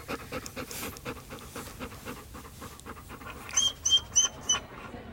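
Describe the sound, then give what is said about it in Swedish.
A Löwchen lying up by the pillows at a person's shoulders pants in quick, steady breathy puffs, then lets out a few short high-pitched whines near the end. No one speaks. “Där ska han så nära som möjligt, för det är en löfsen och löfsen vill vara nära.”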